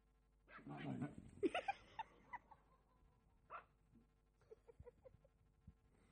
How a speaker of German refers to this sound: Da war ein kleiner Jack Russell Terrier, der hat es gegen 3 junge Löwen aufgenommen. Und er hat seine Beute verteidigt. Da kam keiner zu nah ran. Die wurden grausig und grausamst weggebellt.